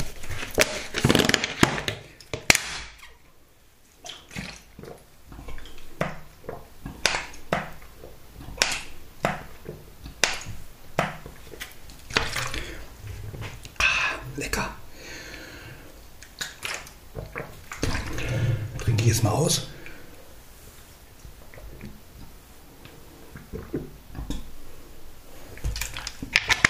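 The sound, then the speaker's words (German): Rummaging with plastic drink bottles being handled, including a bottle of flavored water with a little left in it; an irregular run of clicks, crinkles and knocks with a brief sloshing, squishy stretch partway through; no one speaks. “Ich gucke jetzt mal nach. Ich habe noch Wasser mit Geschmack, wo noch ein bisschen drin ist.”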